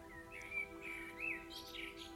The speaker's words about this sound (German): In der Ferne zwitschern die Vögel leise in den Bäumen und das Rauschen der Blätter im Wind beruhigt dich.